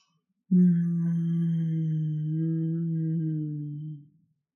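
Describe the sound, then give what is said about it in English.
A single sustained closed-mouth hum on the exhale, on one steady low pitch, lasting about three and a half seconds, clear, then tapering off at the end of the breath. No talking. “Let's see if you can keep it internal and keep it as a hum.”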